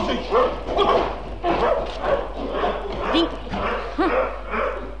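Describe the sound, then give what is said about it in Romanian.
A dog barks aggressively and loud, firing off a rapid run of harsh barks and yelps that keep coming with barely a pause. “Îl cunoști cumva pe câinele ăsta? Eu nu l-am văzut niciodată, domnule capitan. Și dacă se mai repede așa la mine, nu știu ce o să se întâmple.”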